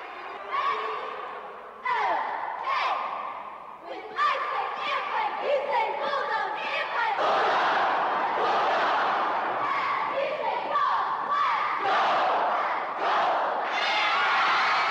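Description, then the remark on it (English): A frenzied student crowd cheers and shouts nonstop in a sports hall as a line of cheerleaders in yellow outfits jumps up and down in front of it, many voices merging into a loud, dense roar punctuated by sharper yells and whoops. “A line of cheerleaders in yellow outfits are jumping up and down in front of a frenzied student crowd in a sports hall.”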